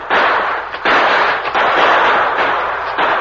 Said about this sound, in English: In the twilight, the Lone Ranger and Tonto exchanged shots with the two remaining outlaws.